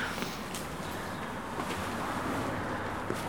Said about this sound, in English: Very noisy here with the cars.